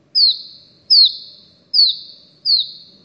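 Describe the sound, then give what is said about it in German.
Four clear, evenly spaced notes of an Iberian chiffchaff's song, each a high whistle sliding downward in pitch, sung fairly loud with no other sounds around them. “Einen anderen Vogel, auch ein Zilpzalp, aber der Iberien-Zilpzalp.”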